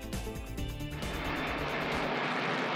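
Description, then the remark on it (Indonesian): A US Air Force B-1 bomber, flown from the United States to strike 85 Iran-backed militant targets in Iraq and Syria on a Friday, roars loudly and steadily, the engine noise building into a broad, rushing rumble with no voices. “Pesawat pengebom B-1 diterbangkan dari Amerika Serikat untuk menyerang 85 target militan yang didukung Iran di Irak dan Suriah pada Jumat.”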